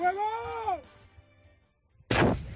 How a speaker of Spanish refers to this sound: Es el sonido de la explosión controlada de distinta munición que se encontró un vecino de Noia limpiando el trastero de su difunto abuelo. Había guardadas, ojo, una granada de mortero de 50 milímetros de calibre de la Guerra Civil, al lado 9 cohetes